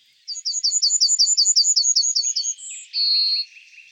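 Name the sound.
yellowhammer song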